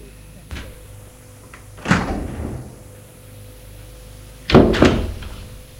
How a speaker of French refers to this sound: Tout à coup, ils ont entendu des clés dans la serrure. Ce doit être ton père.